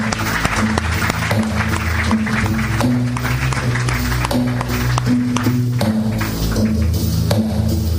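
An audience applauds a saxophonist, clapping steadily for several seconds, a dense, even patter of applause layered over low sustained instrumental notes that shift pitch underneath.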